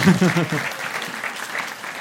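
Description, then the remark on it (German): Evening audience applause for a man, a dense crackle of many hands clapping steadily for about two seconds, with a brief voice at the very start before the clapping carries on alone. “Ein Applaus für den Mann.”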